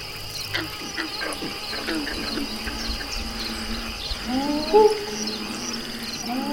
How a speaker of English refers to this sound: putting you in the bayou, out under the stars, beneath the light of the moon, where all you can hear are the crickets, the frogs, the water lapping, and then suddenly, this.